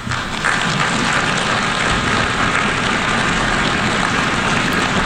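Sustained applause from a big crowd at the UN after the president of the United States says he will always put America first: a dense, even roar of clapping that holds at a steady loudness for about five seconds with no voices over it.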